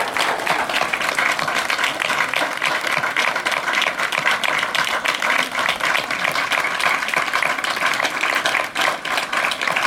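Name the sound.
strong applause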